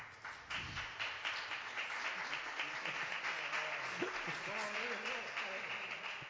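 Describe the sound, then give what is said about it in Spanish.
A crowd applauds steadily, dense overlapping claps sustained for about six seconds at an even loudness, with a few faint voices mixed in toward the end. “Oye, al final le voy a coger yo gusto a esto de los aplausos.”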